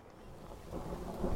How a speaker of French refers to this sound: Oh non ! Regarde, les gros nuages ! L'orage arrive !